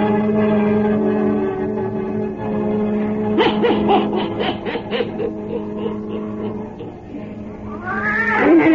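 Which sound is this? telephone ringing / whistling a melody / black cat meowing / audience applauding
black cat meowing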